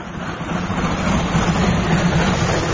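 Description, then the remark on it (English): A train going up a hill rumbles steadily along, its low engine drone and rolling noise holding at a constant, fairly loud level throughout, with no voices. “The train is going up the hill.”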